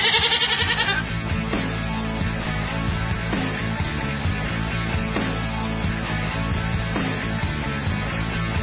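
A goat bleats loudly and insistently, its wavering cries running almost nonstop for several seconds with brief breaks between calls, with no one talking.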